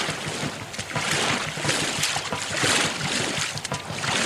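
Steady rushing water with rhythmic splashing and knocking of oars as boats are rowed through a river current toward the opposite bank, fairly loud, with faint breathy voices underneath.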